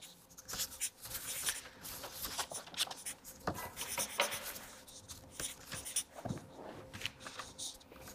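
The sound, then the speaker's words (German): A marker scratches and squeaks across paper in a run of quick, irregular strokes with short pauses between, steady and fairly quiet, with no one speaking. “Schreibt groß genug, ja, dass man das auch schön sehen kann dann in der Kamera.”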